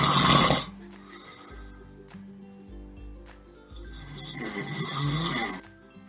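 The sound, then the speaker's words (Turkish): A sleeping lion, resting under a mango tree, snores: two loud, rasping breaths several seconds apart, joined by a low, steady rumbling drone. No one speaks. “Büyük pençe ağacın altında dinlenirken uyuyakaldı.”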